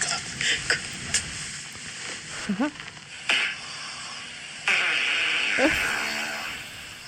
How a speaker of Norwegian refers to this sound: Først en liten godnatt. Altså en gigantisk fis